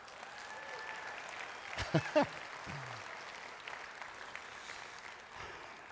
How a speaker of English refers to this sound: Well, listen, if you're going to clap, you got to do it right.